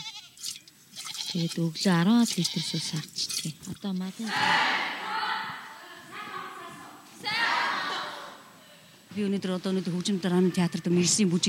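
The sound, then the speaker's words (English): A Mongolian herder's sheep and goats bleat repeatedly with loud, quavering calls, several overlapping near the start and end, while a rough, breathy noise, like the herd shuffling about, fills the middle stretch; the animals are milked before going out to graze. “I cook my tea and milk all the sheep and goats before they go grazing.”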